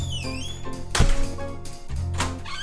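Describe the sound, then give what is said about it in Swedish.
A guest walks straight into an apartment through the door without knocking: a heavy thunk, then a second thud a moment later, fairly loud, with a steady tonal hum in the background and no talking. “Hon klampar otvunget rakt in i min lägenhet utan att knacka.”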